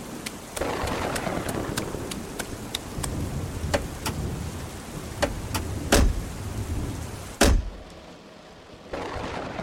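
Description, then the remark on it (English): Steady, heavy storm rain hisses, punctuated by sharp taps and a couple of loud cracks; the downpour briefly thins near the end before surging back. No voices. “We can make it back to Charlemont before the storm gets worse.”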